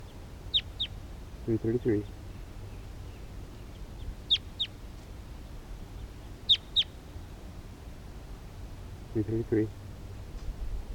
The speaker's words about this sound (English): wild bird in the distance.